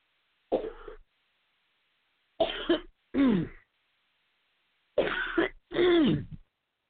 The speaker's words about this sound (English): Well, sorry about the coughing. It happens every time I'm on the air. I'll be okay all day till I start my show, and then boom.